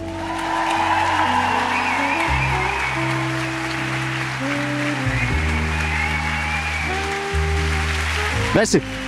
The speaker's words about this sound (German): Meine Damen und Herren, begrüßen Sie mit einem donnernden Applaus den einzig wahren Simon Moser.